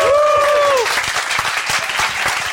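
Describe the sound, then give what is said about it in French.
An audience applauds a guest being introduced, Monsieur 2020, with loud, dense, steady clapping throughout, and a brief sliding whistle-like tone rises over the clapping at the very start before fading out. “Monsieur 2020, applaudissements.”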